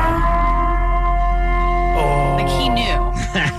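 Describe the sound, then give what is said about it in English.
A loud, sustained warning siren wails with steady layered tones that bend and slide downward partway through, filling the whole clip without pause. “You can steal when that siren goes off.”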